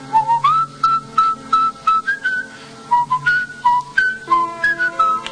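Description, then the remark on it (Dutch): Someone whistles a melody from a Handel organ concerto by mouth, a clear tune of short sustained notes rising and falling in steady, repetitive phrases, with no talking. “Kijk, en dat mooie van Händel is, je hoort het één keer en je kan het dagelijks kan je het fluiten.”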